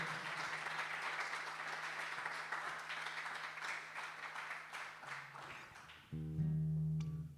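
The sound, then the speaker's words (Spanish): An audience at a live music performance applauds a singer's song steadily for about six seconds, a dense wash of many clapping hands, before it gives way to a sustained humming musical tone at the end. “Muchas gracias por su aplauso y su buena onda.”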